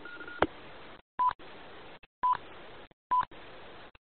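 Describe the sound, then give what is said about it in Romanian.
Five short electronic beep tones come through a hissy radio channel, repeating about once a second between bursts of static and brief silences, each beep fairly high-pitched and clear. “Roger, Roger, am mai fost 5 bipuri aici, nu știu ce probleme sunt.”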